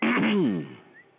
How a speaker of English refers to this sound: That sounded like a Barney Fife sniff you just did there. You know, in the middle of the sentence.